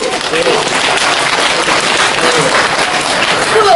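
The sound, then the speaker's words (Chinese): A steady wash of audience applause at a xiangsheng (Chinese crosstalk comedy) stage show, dense overlapping claps holding an even, fairly loud level throughout with no pauses. “他掌声代表一切。”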